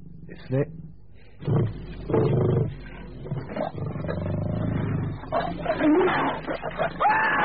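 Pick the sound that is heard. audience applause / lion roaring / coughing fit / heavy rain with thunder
lion roaring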